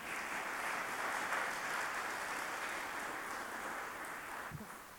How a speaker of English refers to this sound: I think another round of applause is right, don't you?